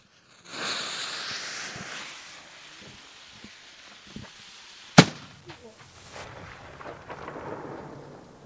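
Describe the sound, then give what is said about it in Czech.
A long hissing, crackling fizz of a burning fuse leads into a single sharp, loud gunshot from an arquebus loaded with black powder, followed by a rumbling echo that rolls away and fades amid faint outdoor sounds. “Slyšeli jste tu ozvěnu a to byla jenom hákovnice.”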